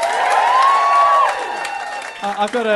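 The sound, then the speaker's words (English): A live show audience claps steadily for about two seconds, applauding if they have heard Do Go On before. A sustained whistle rises over the crowd noise, then a voice starts speaking as the applause fades. “Give us a round of applause if you've heard Do Go On before.”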